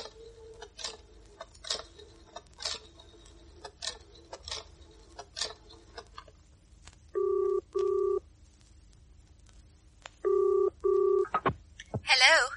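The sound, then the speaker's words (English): A run of sharp dial clicks and ticks lasting several seconds as a factory is called from a public phone box, followed by the ringing tone on the line in two paired bursts with a pause between them. “I'd better ring the factory before it closes.”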